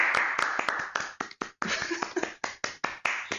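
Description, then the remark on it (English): A short round of applause: several people clapping in quick, uneven bursts with a brief lull partway through, bright and crisp, with no talking over it. “How about a round of applause for everyone?”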